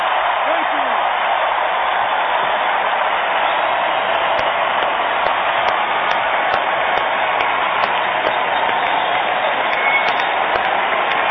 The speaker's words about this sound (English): you just heard the sound of Mark Levine's two hands clapping